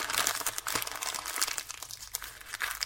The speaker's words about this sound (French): Ce papier, on le froissait d'abord. Et ensuite, on le défroissait.